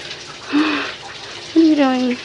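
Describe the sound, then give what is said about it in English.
A shower runs with a steady, soft hiss throughout as the shower curtain is moved, interrupted by two short voiced cries, the second longer and wavering in pitch. “Stop with the shower curtain.”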